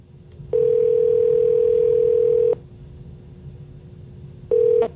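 A telephone ringback tone sounds on an outgoing call to a woman's phone: one long steady electronic tone lasting about two seconds, a pause, then the next ring starting near the end, clear.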